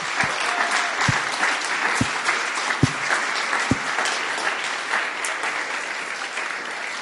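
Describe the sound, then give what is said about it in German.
An audience applauds steadily for about seven seconds as thanks for a contribution, a dense wash of clapping at even loudness with a few sharper individual claps standing out. No one speaks. “Und lasst uns da mal einen dicken Applaus geben.”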